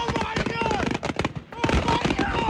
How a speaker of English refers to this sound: During a 4th of July celebration in Sullivan County, Tennessee, the local volunteer fire chief says fireworks loaded onto a barge went off accidentally.